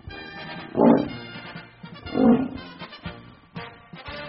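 A lion roars twice, two loud, rough bursts about a second and a half apart, over a steady bed of background music.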